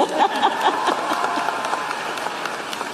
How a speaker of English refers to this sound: Joe Biden's legacy of accomplishment over the past 3 years is unmatched in modern history. In one term, he has already, yes, you may clap.